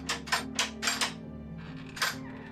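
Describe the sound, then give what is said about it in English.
A metal door latch handle clicks and rattles several times in quick succession, then once more after a pause, each sharp and bright, over a steady low hum with no talking. “No, and it has a latch handle, so you think you would hear it.”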